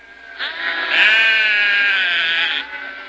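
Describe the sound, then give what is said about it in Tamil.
A single sheep lets out one long, wavering bleat lasting about two seconds, loud, with no talking around it. “ஆட்டுடையா ஆடுகள ஊதா, எம்மங்க ஆடுகள் ஒக்க ஓடி பந்துத்து.”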